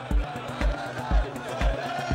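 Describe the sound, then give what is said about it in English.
A dense, noisy crowd fills a street with a steady roar of many voices, while a deep pounding beat thumps regularly underneath, about twice a second. “The dense crowd fills the street.”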